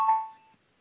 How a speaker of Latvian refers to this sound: Lūdzu, zvanu, balsosim par 68. deputāta Stepaņenko priekšlikumu. Lūdzu, balsosim.